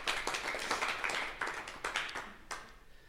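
A small audience at the Stadtbüchereien Düsseldorf applauds steadily after a reading, many overlapping hand claps forming a dense, moderately loud patter that continues throughout without any voices.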